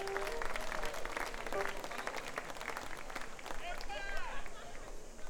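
A crowd applauds steadily, a dense, continuous patter of many hands clapping at an even loudness throughout, with a few whistles and cheers rising above it near the end.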